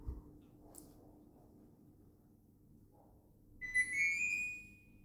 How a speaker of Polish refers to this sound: I właśnie usłyszeliśmy dźwięk tej klimatyzacji wszystkich trzech urządzeń wewnętrznych, czyli w salonie, w sypialni i w gabinecie.